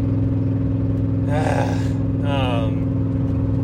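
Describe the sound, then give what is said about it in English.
A car engine drones loudly and steadily from inside the vehicle, pulling under load up a hill past a truck, with two short bursts of higher-pitched rising sound cutting in partway through. “Let me get up this fucking hill. Fuck off, truck.”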